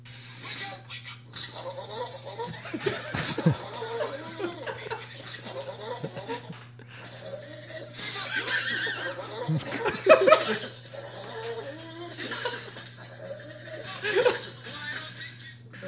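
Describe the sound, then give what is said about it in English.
A goat screams again and again in loud, wavering, human-like bleats, with a steady low hum running underneath. “The screaming goat.”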